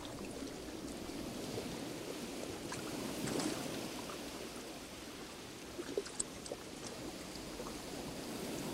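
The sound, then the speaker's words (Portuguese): Gentle sea water laps and sloshes against the bottom of a small boat's hull as the boat is carried along by the sea, a steady wash with occasional soft slaps and trickles, no voices. “Você só ouve o som de pequenas formações de ondas quebrando na beira do mar e a água batendo no fundo do barquinho.”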